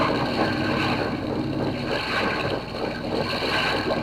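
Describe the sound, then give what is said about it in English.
A malfunctioning seaplane motor grinds and rattles in a dense, steady roar, with a low rumbling throb and harsh mechanical clatter running throughout, loud and unbroken with no voices; the plane keeps shaking even when throttled out. “Must be something gone haywire in the motor,”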